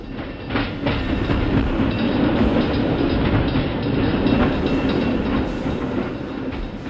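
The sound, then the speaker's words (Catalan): A train rumbles steadily along railway tracks, loud, with a continuous low roar and faint rhythmic clacking of wheels over rail joints throughout. “Avui viatgem al possible descobriment del tren, del ferrocarril, bé, de fet, l'inici del tren a Sant Cugat, a la nostra ciutat, al segle XX, a principis del segle XX.”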